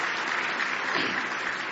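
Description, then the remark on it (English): A church audience bursts into steady, sustained applause, a hand clap of praise to the Lord, many hands clapping together in a dense, even wash of sound without pause. “Give the Lord a good hand clap of praise.”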